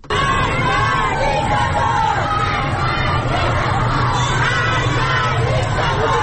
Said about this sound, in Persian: اعتراض‌ها در واقع نشونه درگیری و شدت بیشترش در بلوار فردوس تهران در منطقه غرب تهران هم در ویدیوهای منتشر شده آتش دیده میشه و معترضان شعارهایی رو سر میدن. صداشو بشنویم.